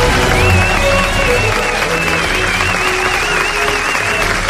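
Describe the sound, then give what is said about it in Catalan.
Sustained applause from a large audience, loud and dense throughout, with a few faint cheers and a wavering high tone running beneath the clapping, applauding the team of a program on receiving an Ondas award. “Un aplaudiment, per tant, per tota la gent.”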